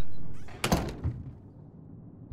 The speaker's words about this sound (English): Stay behind me, all right? So, go ahead and close the door. We'll still hear them.